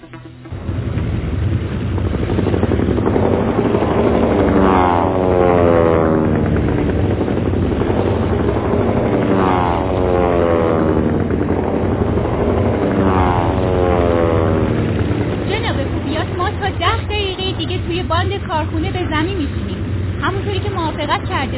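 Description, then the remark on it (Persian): A steady, loud engine drone of an airplane in flight to Turingo fills the whole stretch, with a deep low hum and rising, falling whine; voices talk over it toward the end. “تا تورینگو چند دقیقه پرواز داریم؟”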